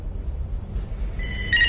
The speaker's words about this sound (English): Somebody want to get that phone?